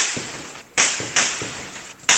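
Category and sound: impact, bursts of gunfire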